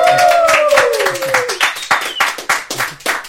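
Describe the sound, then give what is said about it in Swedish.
An audience claps steadily in a dense, continuous patter, with high whoops and a gliding whistle-like cheer rising over the applause in the first second and a half. “Får vi höra er också? Eller någon jubel eller någonting?”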